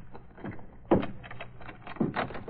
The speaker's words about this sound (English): Hey, listen. What's that? Come on, let's see. It's coming from that closet. That it is. Unlock the door.